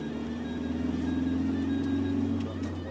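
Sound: car driving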